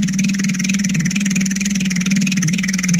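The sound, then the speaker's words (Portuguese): A voice imitates a husband's loud, rumbling snoring, a steady buzzing drone like an idling tractor, held continuously for a few seconds. “Então o marido dela ronca mais ou menos assim.”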